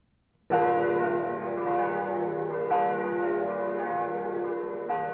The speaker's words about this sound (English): We could hear them in the not-too-far distance, the bells of Rome.